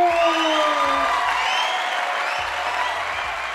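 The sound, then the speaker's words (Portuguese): An audience applauds steadily for a few seconds, a dense, even wash of clapping with some cheers and whoops rising over it. “Então, por isso, eu quero pedir uma salva de palmas para todo mundo e para vocês também.”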